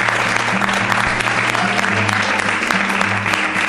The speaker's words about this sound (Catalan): I podem tancar amb un aplaudiment, no?